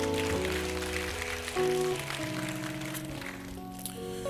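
An audience at Good Hope church applauds its senior pastor and first lady with a steady, dense patter of clapping that lasts the whole stretch, while sustained organ-like chords shift underneath.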